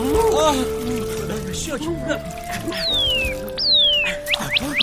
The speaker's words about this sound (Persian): خدایا آب، خدایا شکرت.